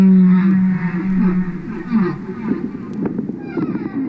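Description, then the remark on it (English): Humpback whale song: a long, low moaning tone gives way to wavering groans and a few quick rising whoops, all over a steady rumbling hiss. “He's at home in landlocked Vermont, listening to the songs of his beloved humpback whales in a wood-paneled living room.”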